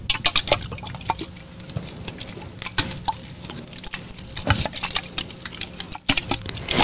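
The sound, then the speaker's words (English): Water sloshes and swirls inside a Christmas snow globe toy, continuous, with irregular little gurgles, drips and soft clicking splashes, heard alone with no voices. “the first toy that I brought is actually a Christmas snow globe”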